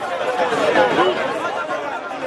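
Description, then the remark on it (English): A crowd of Haitians waiting outside Haiti's migration agency to apply for a humanitarian program to enter the United States murmurs steadily, many voices overlapping into a dense, continuous chatter with no single voice standing out, holding at a fairly even, moderate loudness throughout. “You're listening to a crowd of Haitians waiting outside Haiti's migration agency, hoping to apply for a humanitarian program that allows up to 30,000 immigrants from Haiti, as well as Cuba, Nicaragua, and Venezuela, to enter the United States.”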